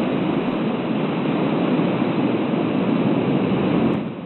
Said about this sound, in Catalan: Aquest és el so real del mar dins de la gruta de Fingal, una cova ubicada a l'illot d'Estafa, a les Illes Hèbrides d'Escòcia.